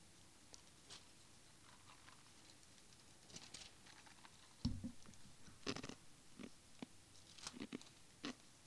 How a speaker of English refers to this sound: Chewing ice in the microphone. Bad. What is that noise? Is he chewing ice in the microphone? Can't believe that.